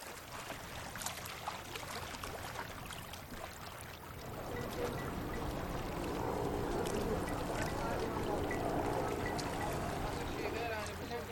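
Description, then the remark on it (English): Ice pours and rattles steadily into the cold storage aboard a fishing launch being readied for a journey, a dense crunching rush that grows louder and fuller after a few seconds, with faint voices and engine rumble underneath. “Loading fresh water and supplies and pouring ice in the cold storage, refueling the loading gargars are the most important tasks.”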